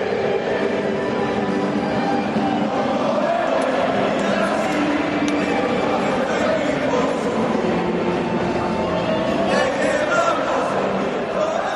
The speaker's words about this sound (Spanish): Y ahora cómo gritan en las gargantas, calculo que está por los 22.000 espectadores aproximadamente. El estadio del conjunto Carballón a puntito de saltar los protagonistas al césped, al buen césped del estadio Carlos Tartiere.